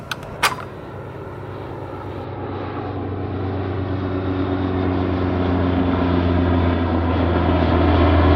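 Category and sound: vehicle, airplane flying overhead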